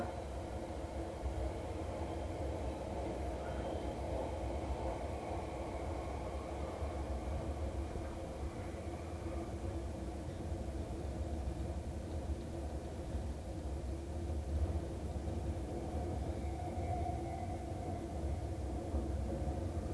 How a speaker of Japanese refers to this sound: ご乗車ありがとうございます。この列車を担当いたします。